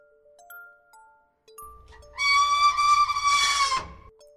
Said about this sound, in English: The machine screamed and a screw suddenly burst out of the hole. The thing that sounded like a human scream was the turning of this screw.